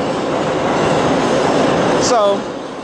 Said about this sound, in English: I'm on the subway right now. That's the 6th train. Ladies and gentlemen, 6th train, heading uptown.